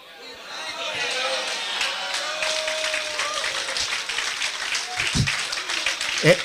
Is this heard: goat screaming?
no